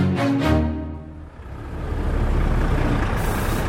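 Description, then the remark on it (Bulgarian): Heavy trucks queued at the Kapitan Andreevo crossing on the Bulgarian-Turkish border rumble, with a short hiss of air brakes and a tonal whine at the start, followed by a steady, loud diesel engine drone that builds slightly. “Колона от тирове се е подредила на българо-турския граничен пункт Капитан Андреево.”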